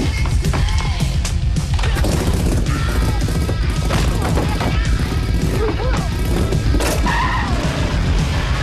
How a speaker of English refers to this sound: Between them, they vanquish the entire gang, sending the last of them crashing into a picket fence on his own bike.